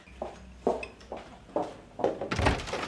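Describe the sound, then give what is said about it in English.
A door being locked: a series of about six dull clunks and rattling metallic clicks in an uneven rhythm, the last ones louder and busier, with no voices. “I better lock the door.”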